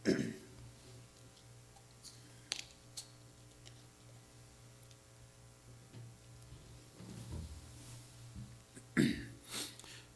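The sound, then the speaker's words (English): A few short coughs and throat-clearing bursts, scattered and stronger toward the end, over a low steady hum with no speech. “And I think I'm going to start coughing.”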